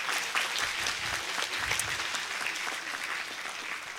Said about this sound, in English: So let's give them all a round of applause.